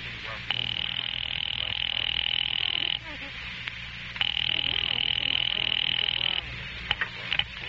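A telephone rings twice over the line while calling an office, each long buzzing ring lasting about two seconds with a short pause between, heard through a faint hiss with no talking.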